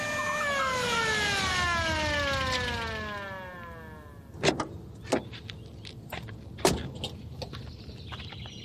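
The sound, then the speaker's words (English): A police car siren wails and then winds down in pitch as the police car, carrying someone in the back, arrives, followed by several sharp clunks and knocks. No one speaks. “Yep, there he is now, taking an unexpected ride in the back of a police car.”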